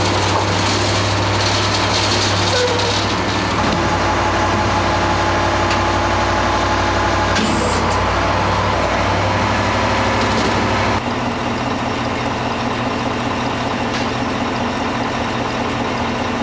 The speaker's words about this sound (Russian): Сейчас мы наблюдаем развертывание пожарной лестницы АЛ-50.